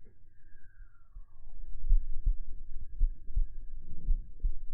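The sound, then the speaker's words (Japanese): A muffled heartbeat thumps in steady lub-dub pairs, low and soft, after a brief faint falling tone at the start; no one speaks. “まずは、心音を聞いてください。”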